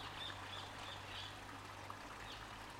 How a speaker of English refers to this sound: Yeah, bird song. You get that here as well. How pleasing is that?